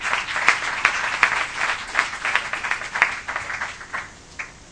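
An audience applauds a speaker after a presentation about crowdfunding, with dense, steady clapping from many hands, moderately loud and sustained, thinning out slightly toward the end.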